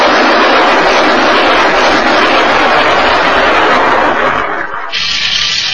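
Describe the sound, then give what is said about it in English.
A loud, steady roar of a rebel airplane's engine as the plane gets off the ground fills the whole stretch, dense, dipping briefly near the end before surging back to full power. No voices. “Hey, the plane! Stop it! Stop the plane!”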